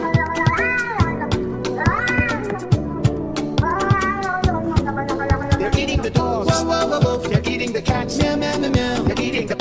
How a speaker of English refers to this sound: They're eating the cats. Meow, meow, meow, meow.